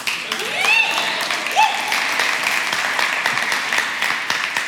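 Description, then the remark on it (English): An audience claps steadily as a speaker walks on, a dense wash of hand claps lasting nearly five seconds, with a few rising whoops or whistles cutting through early on. “I can get used to clapping as I walk on.”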